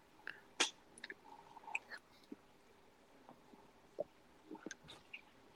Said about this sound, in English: All right. So I hope you guys out there like eating and chewing. Yeah, on the podcast. I know the ASMR right here of the chewing. That's good. The spoon cracking against the bowl or the mug.